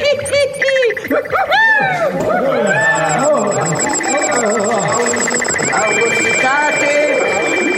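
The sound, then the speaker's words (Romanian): A loud, overlapping jumble of animal cries, donkey-like braying mixed with sheep bleating, rising and falling continuously over a busy, noisy background. “Și pe ceilalți în măgar, în oi și în tot soiul de alte vietăți!”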